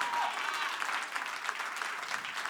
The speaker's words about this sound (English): Yeah, clap it up